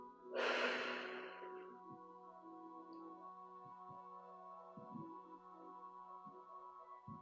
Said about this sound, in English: And breathing in and release through the throat, front and back.